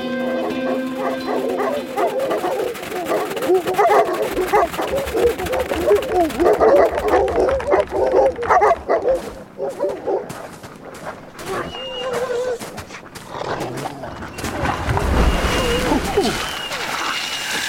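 Several wolves yip, whimper and give short barks, a busy overlapping chorus of high excited calls, with a rumbling burst of noise near the end.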